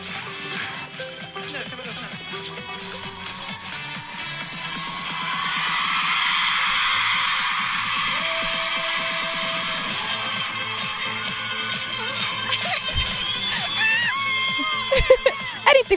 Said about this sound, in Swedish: vi går ut på scenen och så hör jag alla som lyssnar på, alltså du vet de som är i publiken när de skriker.